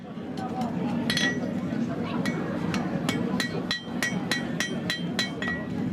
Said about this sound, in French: À coups de marteau sur l'enclume, il prépare toutes sortes d'objets.